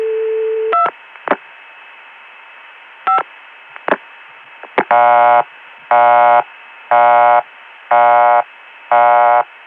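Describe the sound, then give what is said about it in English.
A telephone line on the 288 PBX: a steady tone and a few quick keypad dialing beeps as a non-working extension is dialed, then a PBX busy signal of five evenly spaced, buzzy on-off bursts, clear. “Now non-working extensions go to a PDX busy signal.”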